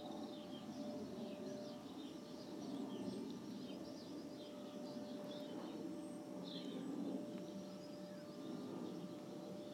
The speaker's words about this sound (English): I hope you can hear the birds and not just the Hoover. Wouldn't life be dull without bird song, wouldn't it really?